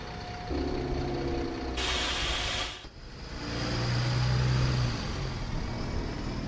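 A large bus engine idles and rumbles, broken by one loud, sharp hiss of air brakes lasting about a second, then the low engine drone continues.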